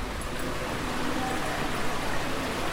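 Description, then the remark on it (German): Water babbles gently and steadily in a shallow channel set into the floor, running lengthwise through the spacious entrance hall of a hospital, a soft continuous trickling wash that stays even throughout, with no voices. “Er plätschert sanft vor sich hin und sorgt schon rein akustisch für eine angenehme Stimmung.”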